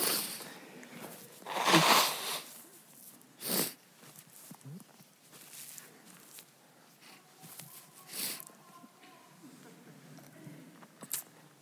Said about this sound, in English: if you could turn my mic off for a second, I'm going to blow my nose.